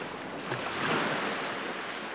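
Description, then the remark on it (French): Big ocean waves crash onto the shore in a steady, broad roar of surf, swelling slightly midway, with no voices present. “Impressionnée par les immenses vagues, Carmela hésite à entrer dans l'eau.”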